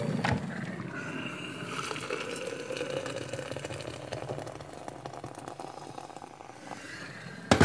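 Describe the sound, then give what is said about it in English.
Hot water pours steadily from a kettle into a French press holding coffee, about 30 ml of coconut oil and about 30 g of butter, filling it about two-thirds: a continuous splashing gurgle with a faint rising tone as the vessel fills, with no voices. “Let's see, let's pour it now. This kettle's got a cute little bing, bing.”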